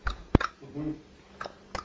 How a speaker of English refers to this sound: We're just chewing and chewing. Are you getting those teeth? Are you getting those teeth?